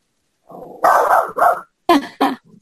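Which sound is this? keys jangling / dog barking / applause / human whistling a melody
dog barking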